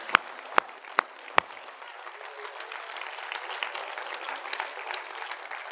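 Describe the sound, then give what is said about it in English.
A few sharp, separate claps ring out, then a whole audience breaks into steady, dense applause that stays fairly even with scattered louder hand-claps poking through. “Y'all ain't gonna clap over there?”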